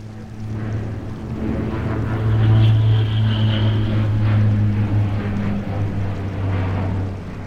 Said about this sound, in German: Plötzlich ertönt das Donnern von Lotte. Mit direktem Kurs auf den Schanzerkopf überfliegt Pitt das Dorf im Tiefflug.